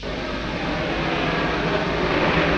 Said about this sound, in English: Right. Door isn't going to budge. Give me the drill. Now the blowtorch.